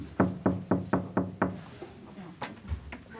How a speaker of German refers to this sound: Ich klopf mal.